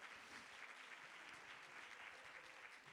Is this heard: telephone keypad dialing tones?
no